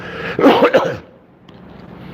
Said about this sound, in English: So I'm trying to clear my throat at the same time. Let me drink something.